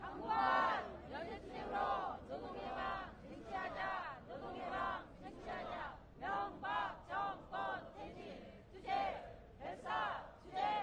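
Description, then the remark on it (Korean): A large crowd at a workers' rally shouts slogans in unison, calling to win labor liberation through solidarity struggle, loud rhythmic bursts of many voices repeating in a steady chant pattern, with short pauses between each call. “힘차게 이런 우리 계리를 담아서 구호해치고 마치겠습니다.”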